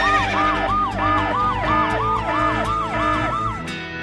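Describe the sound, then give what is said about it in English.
A loud alarm siren sound effect: a fast, rising-and-falling electronic wail repeating about ten times in quick succession, steady and unbroken, with no voices over it. “And sound that horse girl alarm.”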